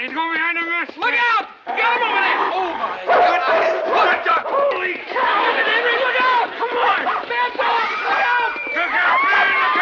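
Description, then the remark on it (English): Radar's dog, which has come home, yelps and barks in short harmonic bursts as people try to grab it, amid a loud, chaotic crowd of shouting voices, the commotion continuous throughout. “I think Radar's dog came home to roost.”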